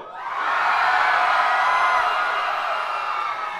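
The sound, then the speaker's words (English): A large concert crowd in San Francisco screams and cheers in a sustained, loud roar. High-pitched whoops and shouts blend into a dense wall of noise that swells quickly and holds steady. “Scream for me, San Francisco!”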